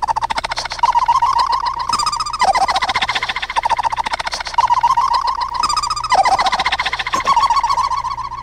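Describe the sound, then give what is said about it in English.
A sped-up laugh smeared by tape echo into a continuous warbling, chirpy stream of rapid high-pitched pulses, rising and dipping in repeating swoops, loud and steady with no talk. “And this is the same laugh, but sped with tape echo.”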